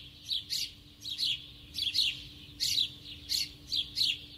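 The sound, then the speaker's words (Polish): A flock of sparrows chirps on a street in dense, repeated bursts, their bright tweets overlapping and echoing off hard surfaces, with a low steady hum and faint background rumble underneath. “To był bardzo charakterystyczny dźwięk na ulicy, wróble ćwierkające w tym pogłosie ulicznym.”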